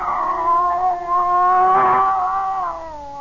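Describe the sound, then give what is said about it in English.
A scrawny cat, Clara, lets out a long, drawn-out yowl, a sustained caterwaul that wavers in pitch over about three seconds, fairly loud with no other sounds around it. “There was a cat.”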